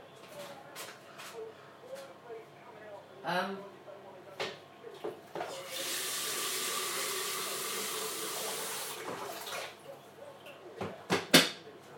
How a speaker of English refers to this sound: I guess I need to water the pot. Fill the kettle first.